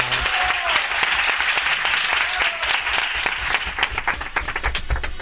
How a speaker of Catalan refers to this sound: I us demano a tots els presents un fort aplaudiment per la primera monologuista